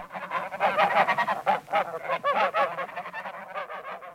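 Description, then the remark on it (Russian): A flock of geese honking repeatedly as they fly past, overlapping nasal calls in a busy, fairly loud chorus without any talking. “Речка ее посадила под бережок, гуси пролетели.”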